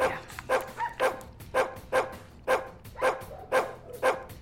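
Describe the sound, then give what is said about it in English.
A dog barks repeatedly in a steady rhythm, about eight sharp barks roughly half a second apart, clear with no one talking over them. “Do you think we should get dog training?”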